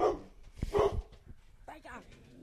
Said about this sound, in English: Shut up! Oh my God. It's like every time we get boring, the dog just goes.